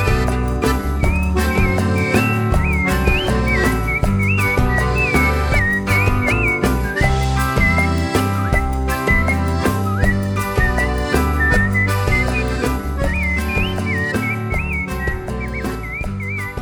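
A person whistles a lively, looping melody over a full, steady musical backing, the whistled tune rising and falling in short repeated phrases throughout.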